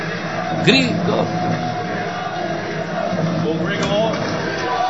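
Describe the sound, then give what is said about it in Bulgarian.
A dense crowd of Bulgarian tennis fans with flags cheers and screams after a player's win into a Grand Slam quarterfinal. A steady roar of many voices carries individual shouts and whoops rising above it, fairly loud throughout. “Българи, виж колко много българи. Знамена, писъци.”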